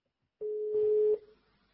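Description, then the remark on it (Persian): A phone call to a doctor going through: one steady electronic telephone tone lasting under a second, fairly clear, with a burst of rustling noise over its second half before it cuts off. “آقای دکتر من زنگ میزنم تلفن رو لطفا جواب بدید.”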